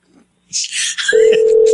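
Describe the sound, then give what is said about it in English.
A quick flurry of telephone dialing clicks and beeps, as someone calls a person back, gives way to a loud, steady telephone tone that holds on without a break, clear with no one talking. “All right, let me call her back.”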